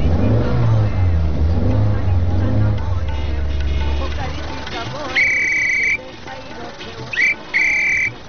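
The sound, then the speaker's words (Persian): A car engine, started in a corner by a shop, rumbles low and steady with a few surges in pitch as it revs, then dies away, followed by two short high-pitched whistling tones. “اینه در این گوشه هم استارت کردیم جانه.”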